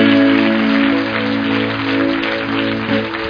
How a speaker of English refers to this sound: God, give Jesus a clap offering. Thank you, Jesus.